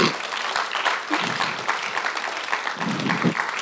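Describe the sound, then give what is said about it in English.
A church audience bursts into sustained applause for themselves, dense clapping from many hands at steady volume, with a few scattered voices mixed underneath. “Would you clap your hands for yourself?”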